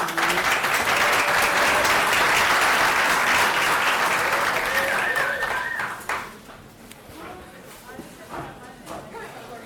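An audience breaks into sustained, dense applause, loud and steady for about six seconds before thinning into a few scattered claps that fade away.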